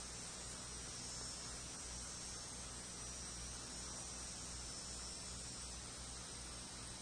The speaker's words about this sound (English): Humming and cackling of insects.